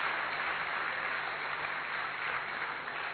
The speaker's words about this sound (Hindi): इसलिए एक बार जोरदार और तालियां बजाएंगे।